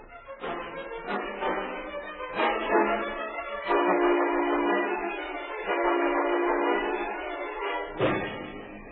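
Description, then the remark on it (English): A steady, loud howling wind roars without a break, carrying a low moaning tone and punctuated by several sharp gusts or thumps every second or two. “Yeah, listen to that wind.”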